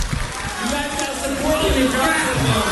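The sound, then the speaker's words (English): A huge crowd roars and cheers continuously, a dense, loud wash of many voices with shouts and whoops rising through the steady din. “But listen to this crowd. I mean, this is a massive crowd.”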